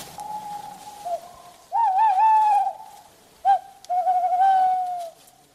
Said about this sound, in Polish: Czyli jak dwa puszczyki usłyszeliśmy, to suweczka już... Raczej liczy.